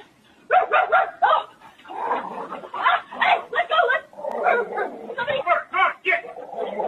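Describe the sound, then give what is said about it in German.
A person imitates a dog in front of a shop in town, letting out a loud string of barks and yelps in an uneven rhythm that carries on for several seconds. “Zum Beispiel, wenn man sich als Hund identifiziert und dann beschließt, irgendwo in der Stadt vor einem Laden, sich zu benehmen wie ein Hund.”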